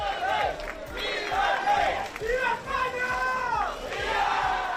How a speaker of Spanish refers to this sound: Ha llegado hace una media hora aproximadamente al Club Náutico de la localidad, donde ha sido recibido con aplausos y gritos de viva el rey por el público que se había congregado allí.